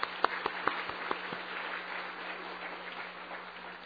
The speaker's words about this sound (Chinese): 好，我们一同鼓掌欢迎他们，好不好？